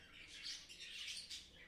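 A small pet bird chirps and warbles in a steady, high-pitched stream of twittering notes with a few brighter bursts, fairly soft, with no voices present.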